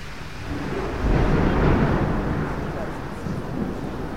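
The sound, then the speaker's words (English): Heavy rain pours down in Gaza in a dense, steady roar of big fat drops, swelling briefly louder near the middle before settling back to a constant downpour with a low rumbling undertone, as people run for cover. “So the rain is really coming down now, big fat drops, and everybody is running for cover.”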